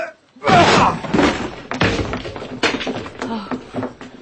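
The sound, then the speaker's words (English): Heavy, booming thuds strike a locked door again and again as two men ram it with their shoulders, four or five forceful blows with grunting voices mixed in. “The door looks pretty solid to me, but the two of us ought to be able to manage it.”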